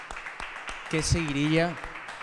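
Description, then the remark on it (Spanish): A few sparse hand claps, sharp and irregular, land across two seconds while a voice sounds over the middle stretch. “Aplaudí un poquito.”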